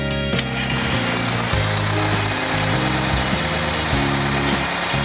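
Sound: school bus engine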